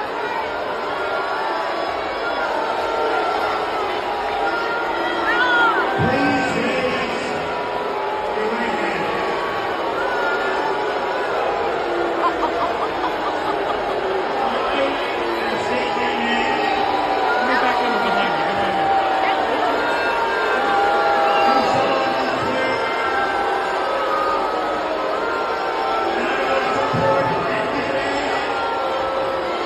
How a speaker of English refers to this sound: But watch this clip of Trump getting booed while he's trying to speak. It's actually kind of funny.